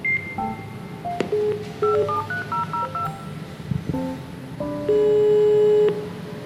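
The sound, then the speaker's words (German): A door entry keypad at a building door sounds a series of short, clear electronic beeps as a code is keyed in to ring the sustainability manager inside, then gives a longer sustained tone, all over a low rumble of background noise. “Den habe ich erstmal ganz modern per Code an der Tür angeklingelt.”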